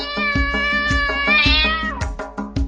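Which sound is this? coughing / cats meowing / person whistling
cats meowing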